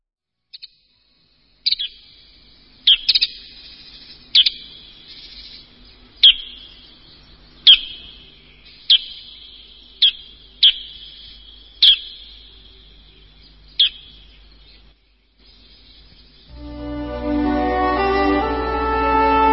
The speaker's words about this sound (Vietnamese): Một tiếng chim hót làm Berin tỉnh dậy. Tiếng hót trầm và buồn với những âm thanh đều đặn và êm ái. Em nhận ra tiếng chim sáo.